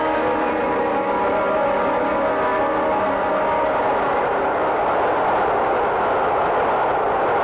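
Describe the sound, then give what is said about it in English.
A subway train rumbles steadily and loudly, with a continuous rush of noise and ringing, bell-like tones layered over it throughout, no voices heard. “Come on, we're at the subway.”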